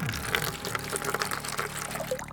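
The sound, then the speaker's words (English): Coal oil pours steadily in a continuous splashing glug for a couple of seconds, with a bright, bubbly gurgle on top of a low rumbling undertone and no voices. “Let's see if a little coal oil will flush him out.”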